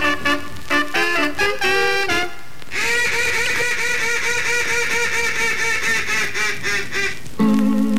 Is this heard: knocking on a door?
no